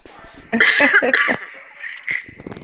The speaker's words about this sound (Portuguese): Espera só um minutinho, deixa eu dar uma tossida aqui que eu tô sem ar.